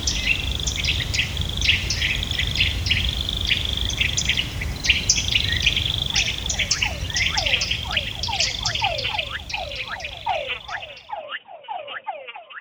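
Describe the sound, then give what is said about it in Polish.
Dense South American tropical rainforest ambience: a steady chorus of insects and frogs with layered birdsong, then a run of rapid, repeated chirping calls, all over a low, constant background hum. “Posłuchaj odgłosów lasu tropikalnego, Ameryka Południowa.”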